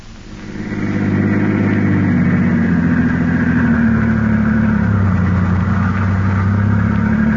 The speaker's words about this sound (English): The two men are now driving in Garrett's car with Peters, alias Harry Gordon, at the wheel.